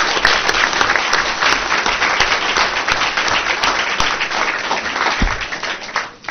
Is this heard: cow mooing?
no